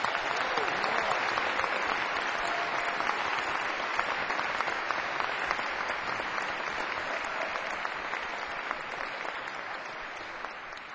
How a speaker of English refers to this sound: Great music. Have a nice round of applause for …, the drummer.